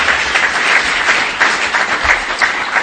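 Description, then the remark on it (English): The audience at an Alcoholics Anonymous meeting applauds steadily, a dense wash of overlapping hand claps that stays loud and even throughout without any voices rising above it. “Applaud yourselves.”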